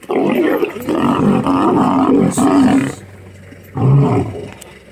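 A lion roars loudly, one long rumbling roar lasting a few seconds, then a brief pause before a shorter, deep grunting roar.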